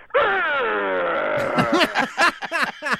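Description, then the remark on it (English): A voice imitates the groaning noise a 1993 Jeep Cherokee Sport makes when the heat is turned on while driving: a long, high, droning groan that sinks slightly in pitch, then breaks into a series of choppy, pulsing grunts that slow down toward the end. “Well, I have a 93 Jeep Cherokee Sport, and when I'm driving and I turn on the heat, it makes this horrible sound. And it starts like a high groan, and then it slows down and goes...”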